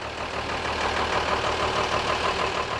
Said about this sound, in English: A worker climbs on top of a dark green water truck. He shouts commands at the driver. He maneuvers the truck, inching back and forth until the filling flap on top of the roof is directly below the frayed hose.